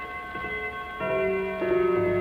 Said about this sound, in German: Deutsche Lieder, die im deutschen Volksempfinden fest verwurzelt sind, haben die Kinzler Uhrenfabrik für ihre neuen Gongs gewählt. Hören Sie den deutschen Gong Halbstundenschlag.